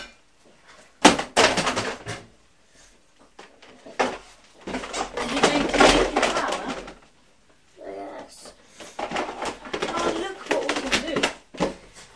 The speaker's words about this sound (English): Is that funny noise? I think I know what that funny noise. What are you doing with the chairs and the tables?